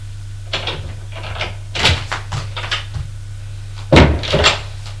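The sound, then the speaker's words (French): A door is opened, heard as a series of wooden clunks and rattles spread over a few seconds, with a louder knock near the end over a steady low hum. “Derrière la porte, il trouve la femme.”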